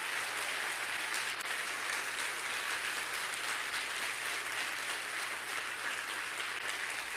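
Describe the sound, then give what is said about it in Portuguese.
A crowd applauds Jesus in the evening, steadily, a dense wash of many hands clapping at once that holds at an even level from start to finish, with no voices rising above it. “Aplaude a Ele nessa noite.”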